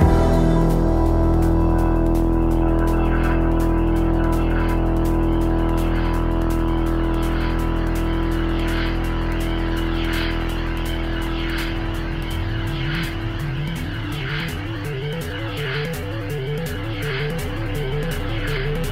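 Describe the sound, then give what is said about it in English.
An EMS VCS3, a primitive synthesizer without a keyboard, drones with steady, buzzing tones under a rapid ticking pulse, then a looping, fast sequenced pattern rises and falls in pitch over the final seconds. No voices are heard. “we hear a primitive synthesizer, one without a keyboard, called an EMS VCS3.”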